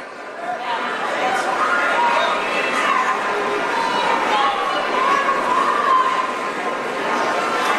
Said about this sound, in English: So this is, if you've been to the Oaks Expo Center, you know it's a huge center. By the way, nobody's talking about the crowd. It's a huge crowd. It's packed.